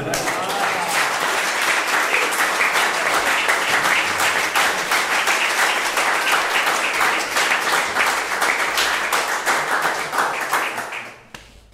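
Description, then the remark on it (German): Steady applause from a crowd, many hands clapping in a dense, continuous crackle for about eleven seconds before it quickly dies away. “Danke für den Applaus.”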